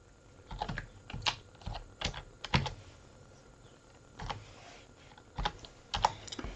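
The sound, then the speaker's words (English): Slow, two-finger hunt-and-peck typing on a computer keyboard: sparse, irregular key clicks with uneven pauses between them, fairly crisp, with no voices. “As I use my two-finger typing here, my skills.”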